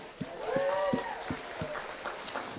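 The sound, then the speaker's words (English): A group claps for first-time visitors in a loose, steady rhythm, sharp hand claps landing roughly every third of a second, while a sweeping tonal sound rises and falls in the background. “Anyways, first time visitors, let's give a hand clap for them.”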